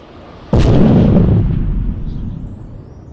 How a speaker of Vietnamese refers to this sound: Một tiếng nổ cực lớn vang lên, như thể cả bầu trời cũng sập xuống.